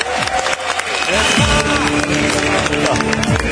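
An audience applauds steadily for a few seconds, a dense crackling wash of clapping with some tonal sounds sweeping through the cheering.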